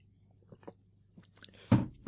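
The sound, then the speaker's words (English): Someone sips a drink: a few faint wet mouth clicks, then a louder slurping gulp near the end. No one speaks. “I mean, for those of you that don't know, I'll just take another sip of my drink here.”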